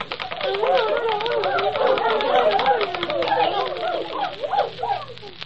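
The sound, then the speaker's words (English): Woodpeckers in a forest pecking away at toadstools in quick, steady tapping, a busy rattle of sharp knocks that runs throughout, with high, wavering twitters and chirps warbling over the top. “Woodpeckers, to action. Let no bird stop his work till the last toadstool is pecked away.”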